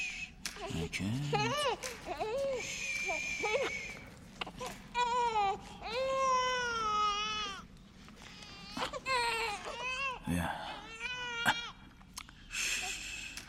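A baby cries in a series of loud, wavering wails, broken by short gasps and whimpering pauses, with several long sustained cries in the middle.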